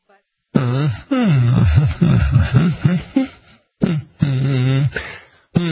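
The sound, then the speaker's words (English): A person hums a wavering melody on the radio, in several sustained phrases broken by short pauses, the voice fairly loud and steady with no words. “Can I hum on the radio, or does that get the buzzer?”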